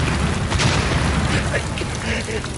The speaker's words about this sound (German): im kalten, stinkenden Schleim eines Schützengrabens, irgendwo zwischen Ypern und Saint-Quentin, betäubt vom schädelerschütternden Donner der schweren deutschen Geschütze, blindlings zu irgendetwas betend, woran er längst nicht mehr glaubte.